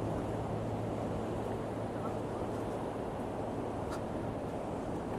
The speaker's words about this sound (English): So I'm just hoping the sound of the ocean picks up. I think it should be all right.